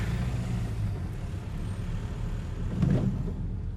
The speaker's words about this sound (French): Je vais dépasser le bus, quand même, parce qu'à mon avis, il n'a pas l'air de voir